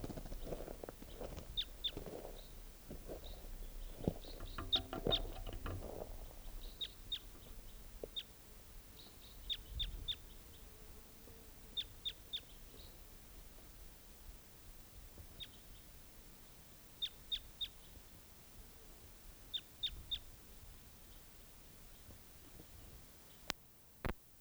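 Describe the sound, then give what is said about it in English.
A bird sings in short, high chirps, often in quick pairs or triplets, repeating every second or two over a soft background hiss, with some low rustling at the start. “Where's that same bird?”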